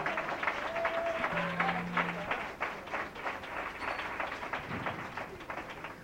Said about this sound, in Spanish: Un aplauso muy fuerte, por favor.